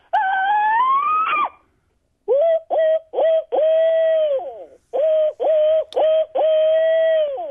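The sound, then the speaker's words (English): A voice imitates an animal's alarm call, holding the phone away from the mouth: a loud, high-pitched shriek that climbs steadily in pitch for over a second, then after a pause a string of shorter, steady-pitched calls in quick succession. “But the first is just this high-pitched, loud, increasing shriek that just would make about anybody jump out of their skin.”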